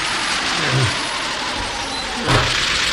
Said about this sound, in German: Das hört sich aber gar nicht gut an. Das klingt, als wäre der Motor im Leerlauf. Wenn er so weitermacht, geht er noch kaputt.